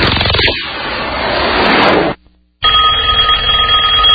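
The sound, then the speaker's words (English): A loud burst of harsh, noisy rushing cuts off into a brief silence, then a telephone bell rings loudly and steadily with a bright metallic shimmer until the end. “Do you avoid picking up the phone, knowing it's just going to be another harassing phone call from a debt collector?”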